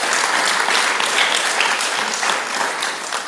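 A crowd claps steadily, a dense, sustained wash of many hands applauding at fairly close range, holding strong throughout before easing slightly near the end.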